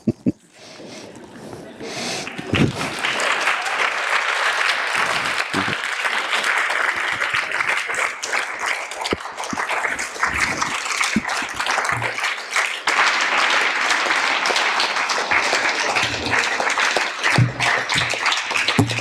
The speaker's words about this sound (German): Das habe ich selbst erlebt, dass bei Gedichtlesungen um Zugaben geklatscht wird.